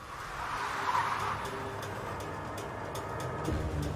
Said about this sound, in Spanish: La persona que conducía el auto se desvió a un lado de la carretera y frenó de golpe.